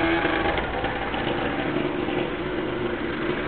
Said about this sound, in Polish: Bardzo cichy skuter teraz jedzie.